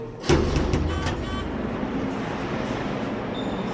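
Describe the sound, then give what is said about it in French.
A heavy metallic slam of a prison door or gate rings out near the start, followed by a steady rumbling, echoing din with a few faint electronic door beeps toward the end, on the upper floor of a prison rotunda between the safety nets and walkways. “Et on passe à chaque fois les grilles, ces bruits permanents, des portes qui claquent, qui ouvrent, qui bipent, et quelques voix qui s'interpellent.”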